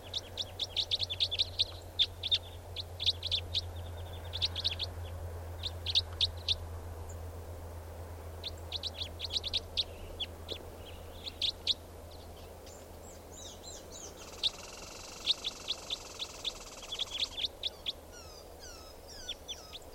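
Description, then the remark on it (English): Four birds perched in a tree call repeatedly, overlapping bursts of high chirps and hoots with a steady low hum underneath and no talking. “like four birds are all calling now, just perched in the tree, they're going to take off.”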